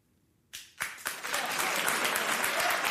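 After a brief quiet moment, a large crowd bursts into loud, sustained applause with cheering, the dense clapping swelling quickly and holding steady.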